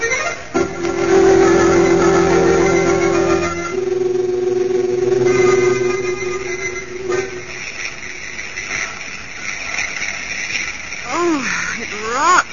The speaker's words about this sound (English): Small plane, Margaret. We're above the mountains.